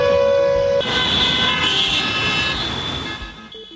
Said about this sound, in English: why honking on the streets of the Bangladeshi capital could soon be a thing of the past.